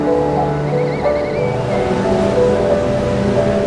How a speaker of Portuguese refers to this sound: Mas o som da água aqui mais parece um sussurro do que um estrondo.